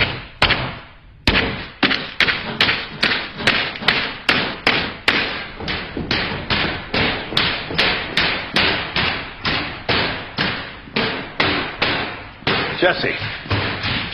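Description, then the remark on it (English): Ice being broken by hammering: a long run of loud, sharp blows at a steady rhythm of about two or three per second, with a short pause near the start. “What are you doing? Breaking ice.”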